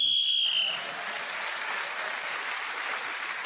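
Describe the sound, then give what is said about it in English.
A referee-style whistle gives one shrill, steady blast lasting under a second, sounding while a contestant was speaking and gaining him the extra point, then an audience breaks into sustained applause that carries on to the end. “So … was speaking as a whistle when gained the extra point.”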